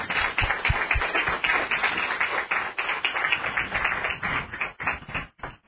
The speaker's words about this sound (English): So a big round of applause for our staff.